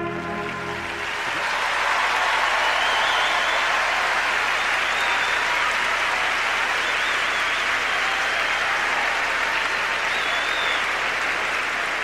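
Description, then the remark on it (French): A championship crowd bursts into sustained applause and cheering for a rule-breaking move by skater Souria, a dense, steady roar of clapping that swells in the first two seconds and stays loud throughout, with occasional higher shouts rising above it. “Effectivement, le public acclame quelque chose comme ça.”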